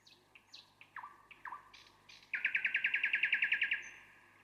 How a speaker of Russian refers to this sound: «Вот это соловей», — сказала девочка. «Слушайте, слушайте». «А вот и он сам». И девочка указала пальцем на маленькую серенькую птичку, сидевшую в ветвях.